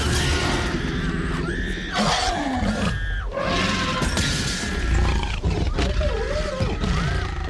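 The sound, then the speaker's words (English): A T-Rex roar film sound effect from Jurassic Park, from the scene where the T-Rex attacks an overturned Jeep with two children inside: loud, layered animal bellows and shrieks that rise and fall in pitch over a deep rumbling growl, filling the whole stretch with barely a pause. “As we see in Jurassic Park, and I'm thinking of a scene where the T-Rex is attacking an overturned Jeep with two children inside.”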